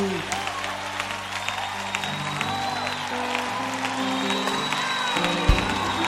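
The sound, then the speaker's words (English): A crowd at a worship service praising God claps steadily and continuously, with scattered cheers and whoops rising over a sustained musical drone, the sound full throughout. “Come on, clap your hands.”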